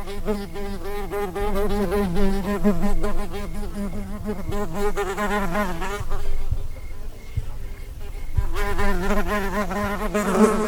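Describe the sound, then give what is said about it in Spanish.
A housefly buzzes in flight, a steady droning hum whose pitch wavers and swoops as it moves, briefly fading a little before growing loud again. No voices. “Mi cerebro zumba como el vuelo azaroso de la mosca,”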